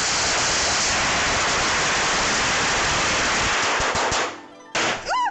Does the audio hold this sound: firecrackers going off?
yes